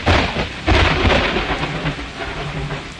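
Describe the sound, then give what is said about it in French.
Steady rain falls with a dense hiss, while deep rumbling thunder rolls underneath, swelling loudly early on and then easing into a continuous downpour. No voices. “7 jours après, la pluie commence à tomber.”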